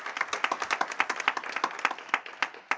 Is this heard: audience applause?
yes